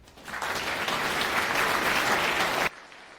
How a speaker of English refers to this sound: Round of applause.